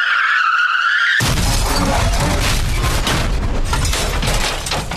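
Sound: car crash sound effect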